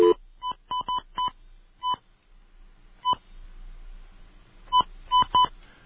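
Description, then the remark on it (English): A series of short touch-tone telephone beeps, about eleven in irregular bursts with brief pauses between, clear over a faint low hum, with no talking, as an outside line and a MasterCard phone number are dialed. “Where's their phone number? Oh, there it is. Okay. Outside line.”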